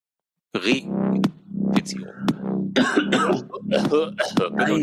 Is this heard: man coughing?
yes